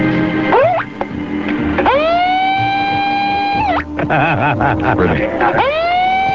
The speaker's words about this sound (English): What about the siren? Oh, the siren.